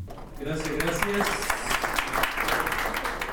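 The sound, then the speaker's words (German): A crowd applauds steadily, a dense wash of many hands clapping at fairly even loudness throughout, with a voice speaking briefly over the opening second. “Nochmal Applaus, ein Cocktail und dann ging es für die meisten Teilnehmenden bereits zurück zum Flughafen.”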